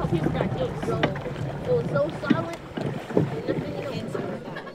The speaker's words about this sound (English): What did we just do? Water rafting and I'm cold. It's early fall on the New River. There are three big blue whitewater rafts filled with kids